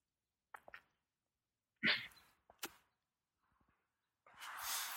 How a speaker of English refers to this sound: After just a minute or two, however, you can hear somebody. It sounds like somebody is coughing.